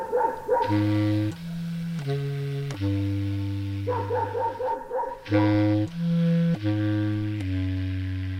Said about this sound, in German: Und eine weitere Erkenntnis, die Oberpfälzer Hunde bellen genauso laut wie die tschechischen.